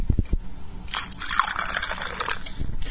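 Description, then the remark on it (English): A few low clunks, then a steady fizzy, splashing pour of Diet Coke with Jack Daniel's American bourbon into a glass, fairly loud, running for a couple of seconds with no talking. “pouring Diet Coke into a glass with Three Seconds of Jack Daniel's.”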